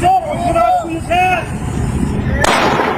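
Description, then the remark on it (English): Distorted phone recording made by a witness about 100 feet away of raised, shouting voices, followed near the end by a sudden loud gunshot that rings out and lingers over the noisy background, as police officers fire shots at a gas station in East Central Fresno. “From about 100 feet away, a witness pulled out his phone after the first two gunshots and recorded officers shooting two more shots.”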